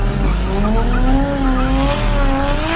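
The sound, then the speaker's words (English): A car drives in circles and drifts with a sustained, wavering tire squeal over a steady, loud engine roar, the screech bending up and down in pitch for a few seconds without a break. “That's when the driver of the car started driving in circles and drifting, trying to shake my mother off.”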